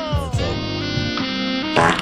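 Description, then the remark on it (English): A long, buzzy fart sound stretches for about two seconds, steady and fairly loud, with a brief rougher burst near the end and no talking. “Well, if she's that skilled that she's making videos and getting paid for it, yes, she probably can drop a sexier sounding fart.”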